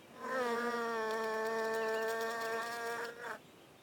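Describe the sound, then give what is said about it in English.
A steady bee buzz hums for about three seconds with a rich, droning tone, then cuts off abruptly. No voices or other sounds accompany it. “The bees like spring too. They find pollen and nectar in flowers.”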